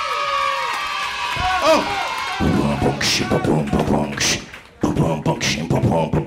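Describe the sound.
Loud audience cheering and whooping with applause welcoming two comedian guests on a show, voices shouting over one another in a dense, continuous roar that swells in bright bursts for several seconds.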